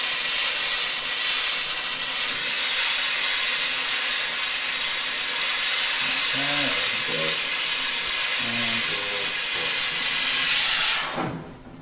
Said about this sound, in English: And it poured slinkily into that vice that you have there. That's just delicious. So now you've poured the silver into, what would this instrument be called? Or this? What do you call it? A mould, really? A mold? It's just a mould.